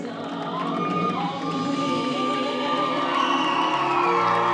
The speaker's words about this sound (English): The crowd erupts in recognition.